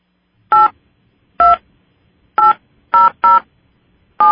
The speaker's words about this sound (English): Hang on just a second. Let me start the recorder. Please enter your PIN followed by pound.